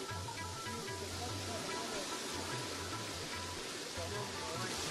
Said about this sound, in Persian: نام خدا، چقدر آب اینجا تیز میاید، از بالا آب میاد طرف پایین و اینجا چقدر یک فضای مقبول و دیدنی شده، یک جای بسیار مقبول و دیدنی. از اون بالا جویچه آب است که به بسیار شدت میاد این قسمت طرف پایین.